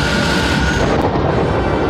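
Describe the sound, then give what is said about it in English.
A loud, sustained thunderous blast of crackling energy as the glowing Ark shoots out bolts of lightning that destroy soldiers, a dense roaring rumble that fills the whole moment without letup, overpowering, with no voices. “The Ark glowed brilliantly, and bolts of lightning shot out, destroying Belloc and the soldiers.”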